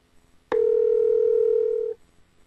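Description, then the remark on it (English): A single steady electronic telephone dialing tone from an iPhone, placing a call after a phone number is tapped, begins abruptly and holds for about a second and a half before cutting off, clear with no voices. “For example, tapping on a web address in an email launches that website in Safari, and tapping on a phone number calls that number.”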